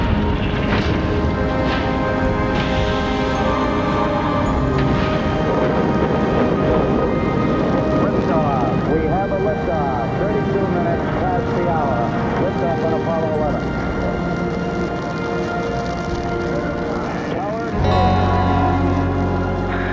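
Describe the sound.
Rocket engines roar at launch after the ignition sequence and countdown, all engines running, a loud, dense, continuous rumble that fills the whole 20 seconds and shifts in tone near the end, with indistinct voices mixed into the noise.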